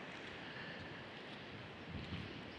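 A steady, hissing wash of surf rolls on without pause, a broad ocean roar with a slight swell near the end and no voices.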